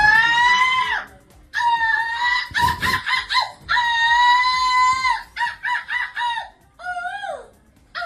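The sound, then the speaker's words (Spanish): A woman from Vigo, Spain, imitates seagull calls loudly at a European seagull-imitation championship: long wailing cries alternate with quick, choppy bursts of staccato squawks, ending on a falling cry, with no talking. “Una viguesa queda segunda en el campeonato europeo de imitar gaviotas.”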